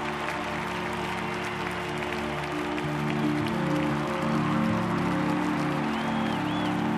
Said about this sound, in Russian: Это бесконечное смотрящее пространство аплодирует вам.